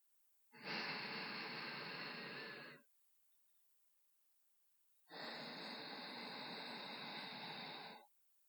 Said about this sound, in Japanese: そろそろ私の息遣いを感じられるかもしれない。